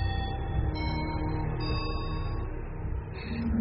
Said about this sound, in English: Three chimes means we have to go to our rooms.